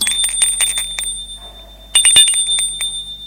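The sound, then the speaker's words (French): A doorbell at a first-floor door without a nameplate in an old building rings in a loud, rapid metallic trill with a high bright tone, stops for a moment partway through, then rings again in another burst. “La porte n'a pas de plaque à nom. Il sonne.”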